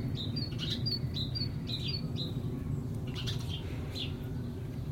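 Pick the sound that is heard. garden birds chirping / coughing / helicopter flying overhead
garden birds chirping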